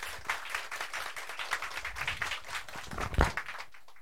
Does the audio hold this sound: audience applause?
yes